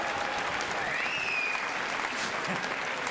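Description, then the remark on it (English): An audience claps steadily, a dense, even wash of applause that holds at a constant level for about three seconds, with a faint whistle-like tone rising briefly in the middle. “Oh, thank God you clapped that.”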